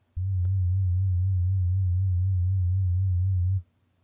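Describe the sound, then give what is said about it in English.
A steady, pure low synthesizer sine tone holds at constant loudness for about three and a half seconds, then cuts off cleanly, with a faint click near the start and no voices. “Oh, because we are using a sine wave, we don't have many harmonics to affect, so our filter does nothing.”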